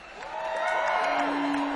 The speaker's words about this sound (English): They deserve a round of applause. But now they deserve two round of applause.